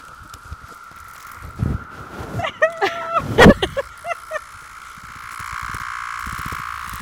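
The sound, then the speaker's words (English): A cicada's steady drone hums continuously in the background, with a burst of sharp clicks and crackly buzzing bursts partway through, then the drone swelling slightly noisier toward the end. “not a dragonfly, that's a cicada. Yep, that's a cicada.”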